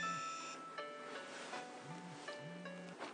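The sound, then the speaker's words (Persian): A mobile phone rings with a bright electronic melody, its tonal notes repeating in short phrases at a steady volume over a faint hiss of background noise, with no one speaking. “تلفن تو چرا جواب نمیدی؟”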